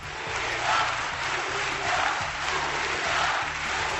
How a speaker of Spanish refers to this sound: Le recibieron con la ovación de rigor en pie, pero también con un cántico que incluía un primer mensaje.